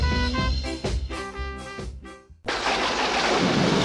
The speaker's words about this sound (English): Oh no, look, it's just started raining.